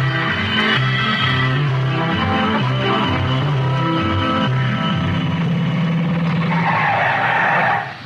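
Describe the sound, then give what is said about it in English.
A car skids hard with brakes squealing in a loud, sustained, wavering screech lasting several seconds, then cutting off abruptly as it comes to a stop. No one speaks. “Get them brakes fixed.”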